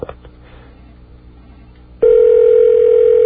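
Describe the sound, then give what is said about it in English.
Faint phone-line hiss for about two seconds, then a loud, steady ringback tone starts abruptly and holds unbroken to the end, as heard over a telephone call to a Holiday Inn in Anchorage, Alaska. “There's nothing Alaskan about that ring.”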